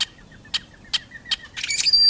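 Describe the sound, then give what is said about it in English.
Rusty blackbird calls: a series of short, harsh bursts spaced roughly every half second, then a squeaky, rising, buzzy flourish at the end, clear with no talking. “It's basic black with an inelegant voice. It nests in places we rarely visit, and in relative obscurity. The rusty blackbird”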